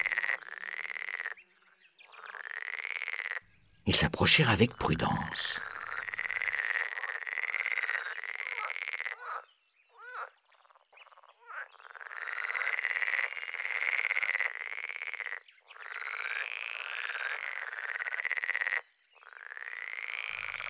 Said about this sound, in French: « Je suis la grenouille !» coassa l'animal depuis la berge où il se tenait.